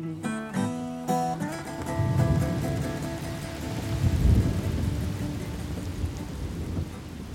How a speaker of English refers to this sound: Heavy raindrops pelt down across the windshield during a southern summer heat wave.